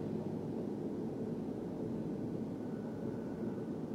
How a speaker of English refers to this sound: a lot of traffic through here.